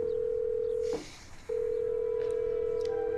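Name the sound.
telephone call being dialed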